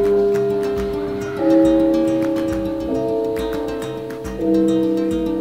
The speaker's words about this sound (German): Die Pause an der Marienschule Münster beginnt mit einem Gong, wie im Theater.